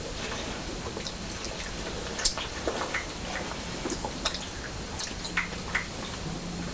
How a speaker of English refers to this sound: Birdie's eating the food. She's making quite a lot of noise, isn't she? Can you hear her chomping, crunching?